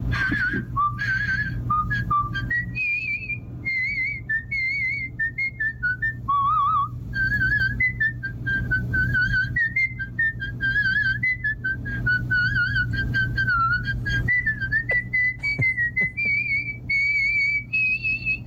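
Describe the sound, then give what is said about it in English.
A man whistles a continuous tune for nearly twenty seconds, the pitch rising and falling through a flowing melody, clear over a low steady background hum. “Told us he can't whistle.”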